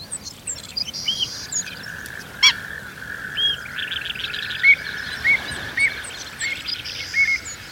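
Several wading birds call across an open salt marsh of grasses and herbs: short, clear whistled notes repeat at irregular intervals over a steady high buzz of insects, with a few sharper chirps and no voices.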